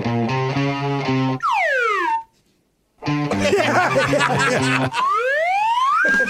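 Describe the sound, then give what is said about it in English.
A slide whistle swoops downward in pitch over a bouncy song on The Bob and Tom Show, the music cuts out briefly, then resumes and the whistle glides back up, loud against the backing track. “The slide whistle can make any song sound better.”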